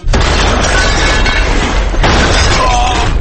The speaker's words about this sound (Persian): نفهمیدم فقط این انفجار تو سیستان و بلوچستان بود یا کردستان؟